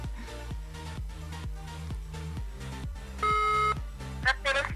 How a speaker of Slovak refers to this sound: Zvoní to? Stále to zvoní.